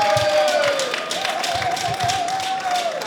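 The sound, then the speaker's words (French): Audience applause fills the moment: a dense, steady wash of many hands clapping at once, with a faint sustained tone gliding beneath it before fading out. “Et on l'applaudit bien fort, s'il vous plaît.”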